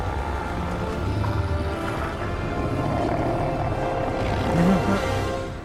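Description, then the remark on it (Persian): Wolves that have surrounded someone growl and snarl in a low, continuous rumble that stays loud for several seconds, swelling near the end. No one speaks. “حالا گرگا محاصرم کردن.”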